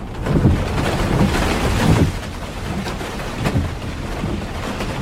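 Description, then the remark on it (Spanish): Steady, dense rain hisses throughout during a nighttime storm over a mountainous area of the province of Granada. A low rolling rumble of thunder builds in the first couple of seconds, then eases back under the downpour. No voices. “esta historia comienza en una carretera solitaria, en el interior de un coche, el 24 de diciembre, cuando ya ha anochecido y una tormenta asola este espacio montañoso de la provincia de Granada.”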